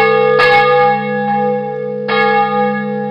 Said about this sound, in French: Mais cette fois-ci, à la place des tonnerres qui grondaient, il y avait des cloches qui sonnaient.